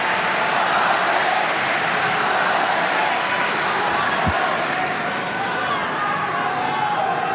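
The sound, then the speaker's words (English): A tennis crowd roars with cheers and applause after Alex Dimonor wins a point with a lob against Zverev to reach set point, a dense, steady wash of noise that stays loud and unbroken for the whole stretch. “The crowd will eventually settle with a little help from ….”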